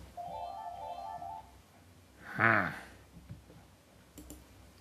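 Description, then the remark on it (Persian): A telephone rings once, a steady electronic tone lasting about a second, followed by a short rising harmonic chirp and a few faint clicks. “تلفن زنگ میزنه. تلفن چی میگه این وسط؟”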